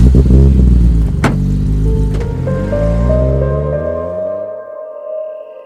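A car engine revs up, its pitch climbing steadily as the vehicle pulls away, the rumble thinning and fading toward the end. No voices are present.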